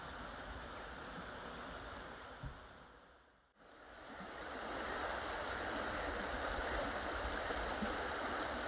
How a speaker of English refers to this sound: It really is a beautiful spot to just pause, enjoy the sound of the water running under the bridge and the birds that are just waking up in the trees around me.